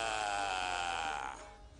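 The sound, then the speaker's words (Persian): A person imitates a sheep with one drawn-out, quavering "baa" that holds a steady, nasal pitch for over a second before trailing off, with no other talking. “چرا صدای گوسفند در میاری؟”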